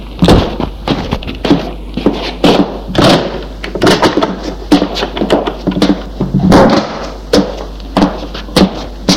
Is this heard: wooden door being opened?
yes